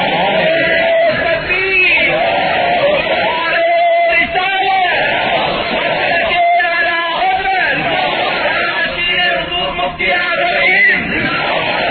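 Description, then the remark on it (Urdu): A large crowd chants slogans loudly and continuously, many voices bellowing and yelling together in repeated rhythmic bursts for the whole stretch, with no pause in the noise. “نعرے لگاؤ گے تو بات نہیں ہوگی. اب آپ نعرے لگا چکے, اب بات سنیے.”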